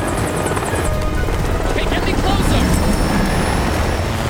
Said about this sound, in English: Gibbons banks the helicopter.